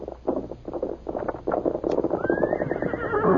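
Steady, rhythmic hoofbeats clop along as Scout, Tonto's horse, comes back without Tonto, then Scout lets out a loud, high, wavering whinny that carries over the continuing hooves to the end.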